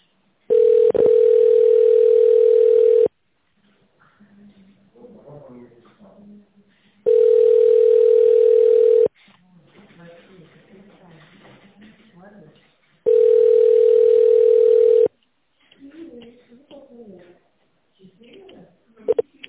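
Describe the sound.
A telephone ringback tone, heard while waiting for an operator after calling the Ural Mining and Industrial Holding, sounds three times, each a loud, steady, low-pitched hum lasting a couple of seconds, separated by longer pauses filled with faint, muffled voices.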